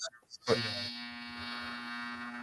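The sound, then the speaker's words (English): After a moment of brief talking, a loud electronic buzzer kicks in and drones steadily on a single harsh, rasping tone for about two seconds, unbroken. “Buzzer.”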